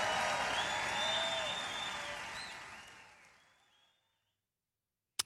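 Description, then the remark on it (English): A large crowd cheers and applauds loudly, with whistles and shouts rising over dense clapping, then the noise fades away over a few seconds into silence before a brief click. “The cheering goes on for a while.”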